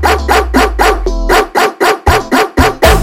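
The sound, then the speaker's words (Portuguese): A dog barks loudly and rapidly, about ten sharp barks in quick rhythmic succession. A deep bass tone hums beneath the first half before the barks continue alone. “Cuidado com aqui o cachorrão.”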